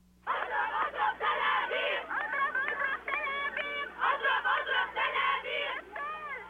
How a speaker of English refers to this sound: there was a demonstration in front of the American embassy in the Jordanian capital, Amman. A crowd of mostly women and children gathered to condemn United States policy in the Middle East.